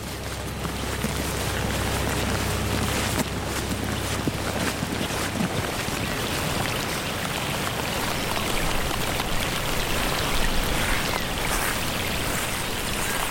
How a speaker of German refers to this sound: Während es weiter regnet, setzen wir unser Gespräch in einer kleinen Gartenhütte